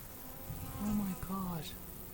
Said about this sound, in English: We saw one or two, and they were like buzzing onto the queen cage, and then a few more came. But the main thing was we could hear them in the sky, quite loud.